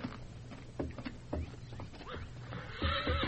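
A stallion acting up in a lean-to whinnies in a string of shrill, wavering neighs, rising and falling in pitch, with a few dull thumps of hooves underneath and a louder, sustained whinny at the end.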